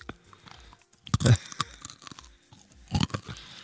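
Someone chewing crunchy food right at the microphone, with loud irregular bursts of crunching and biting separated by quieter mouth sounds, and no talking.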